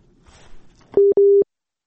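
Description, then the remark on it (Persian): A call-in listener's phone line drops, giving two loud, steady beeps of a disconnect tone at a single mid pitch, the second longer than the first, after faint background murmur. “بله انجینیر صاحب شما هستن یا تلفن شما قطع شد؟”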